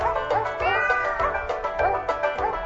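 Sampled cat meows are pitched and strung into a bouncy novelty tune, a steady run of loud mews riding over a low musical backing with no one speaking.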